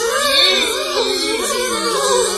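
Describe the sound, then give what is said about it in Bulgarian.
A continuous, loud buzzing drone of bees with a wavering, rising and falling pitch, sustained without pause and with no talking over it. “Да, господин Мечо, съветвам те да побързаш, защото пчелите стават нетърпеливи. Чуй ги!”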